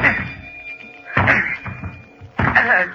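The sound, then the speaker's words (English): Three heavy, loud thuds of a shoulder slamming against a jammed stateroom door aboard a ship, about a second apart, each with a brief rattling resonance as the door shudders but holds. “It's jammed. steady. I can break it down.”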